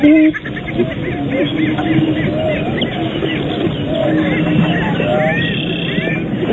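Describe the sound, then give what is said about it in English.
A dense chorus of prairie chickens booming and cackling at a distance across flat, foggy terrain in the morning mist, low hollow hoots layered under a steady stream of sharp, clucking calls that carries on without pause. “If the fog was hiding the chickens, there was no hiding the booming and cackling in the distance.”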